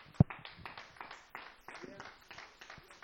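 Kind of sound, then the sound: crowd, audience hand clapping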